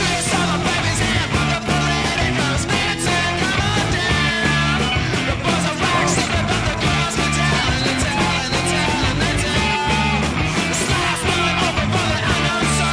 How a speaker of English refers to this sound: That's a distorted bass, isn't it? Everything they do has distortion in it.